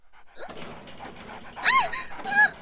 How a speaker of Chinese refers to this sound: 这是狼狗，你放它放进来做什么？